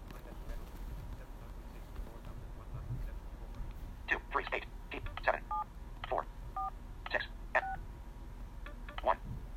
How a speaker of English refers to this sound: Let's try once more. Please enter the final group of digits in your phone keypad.